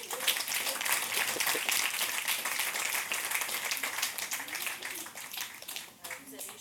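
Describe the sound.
Steady audience applause at a show, a dense, crackling wash of many hands clapping that holds strong throughout and dips briefly near the end, with faint voices murmuring underneath.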